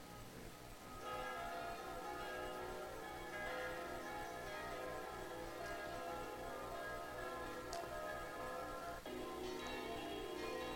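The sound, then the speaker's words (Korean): Church bells of a church ring through the streets in Switzerland, pealing continuously and loudly, their overlapping ringing tones filling the air for the whole stretch, with a faint hiss of street ambience beneath and no one talking. “이렇게 칩니다. 거리가 그냥 종소리로 가득해요. 막 떠나가라고 칩니다.”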